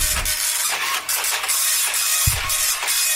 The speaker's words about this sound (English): So the printer's quite slow as well. Sorry if I'm on a slow. What a slow printer.